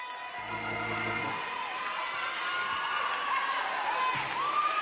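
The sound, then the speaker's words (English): A church audience shouts and cheers together in a loud, sustained roar, with overlapping raised voices and whoops rising and falling over a few seconds. “Well, since you're shouting, just shout on the word.”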